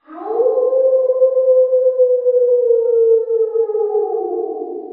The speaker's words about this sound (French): D'ailleurs, écoutez, le loup entend hurler là-bas, dans le lointain. » Les brebis prêtèrent l'oreille. Elles entendirent en direction de la forêt les cris glaçants d'un loup qu'elles ne connaissaient que trop.